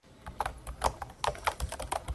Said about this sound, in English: To some people in eastern Ukraine, the sound of a computer keyboard has become a dangerous and subversive thing.